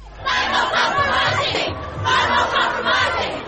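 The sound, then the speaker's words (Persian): A large crowd of young protesters, mostly school students at a climate change demonstration against government climate policies, chants loudly in unison, voices rising in rhythmic bursts roughly every second, with a brief dip before the chanting swells again. “هزاران نفر از سیدنی تا نیویورک در اعتراض به سیاست‌های اقلیمی دولت‌ها به خیابان‌ها آمدند.”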